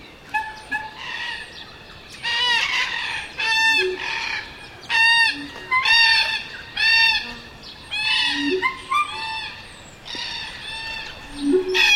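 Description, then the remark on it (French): A flock of cockatoos, parrots and parakeets screeches and squawks in a steady series of harsh, overlapping calls, loud, with brief pauses between bursts and no voices. “Au mois de septembre, les cacatoès, perroquets et perruches s'envolent vers l'est.”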